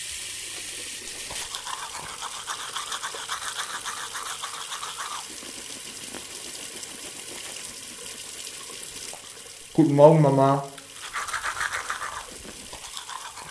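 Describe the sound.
Steady scrubbing of a toothbrush over a running water tap's constant hiss, briefly interrupted by a short spoken greeting before the brushing resumes.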